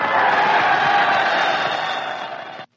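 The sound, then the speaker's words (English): A large crowd of servicemen cheers and whistles loudly and steadily for a few seconds as a female entertainer is introduced, a dense roar of many voices that cuts off abruptly. “You look so lovely, I couldn't help cheering and whistling.”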